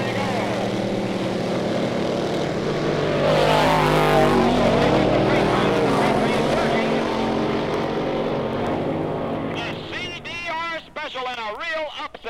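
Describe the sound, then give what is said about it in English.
The powerful engines of two drag racing cars roar loudly and continuously as they launch from the starting line after a countdown, surging to a peak before the sound thins out, with a voice talking over the noise near the end. “Up to the starting line, both cars coming slowly into the lineup light. Just about ready to go on the countdown.”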